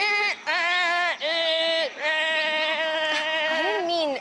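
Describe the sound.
A person imitates a goat at Granby Zoo near Montreal, letting out several loud, wavering bleats in quick succession, each a nasal, quavering 'baa' sound with brief breaks between them.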